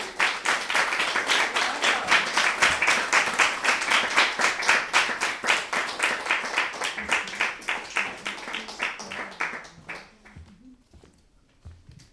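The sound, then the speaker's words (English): Loud applause for the readers at a reading event, with a steady, rhythmic clapping pulse, runs for about ten seconds, then thins out and fades, with a faint voice at the very end. “Can I get one more round of applause for all of our readers, please?”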